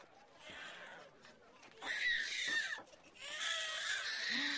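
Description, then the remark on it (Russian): A newborn baby cries in two drawn-out, shrill wails, the second rising after a short pause, fairly loud against a muffled, noisy background. “Да это же младенец.”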